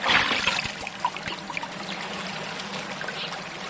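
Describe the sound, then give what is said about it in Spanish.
Water splashes and sloshes noisily as two people slip and fall into a stream while trying to jump across it, a loud burst at the start settling into steady churning and trickling, with no voices. “ya nos caímos al agua por tu culpa y me mojé todito.”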